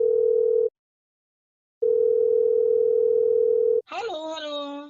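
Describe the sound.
A steady ringback tone sounds twice, a short burst then a longer one separated by silence, before a voice answers the call.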